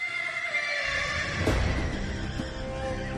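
A horse whinnies loudly, its high, wavering call ringing out alone while heavy hoof thuds and low rumbling build underneath through the rest of the moment.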